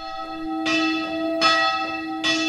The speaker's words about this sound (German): Von aussen hört man die Glocken vom Kapuzinerkloster schon von weitem.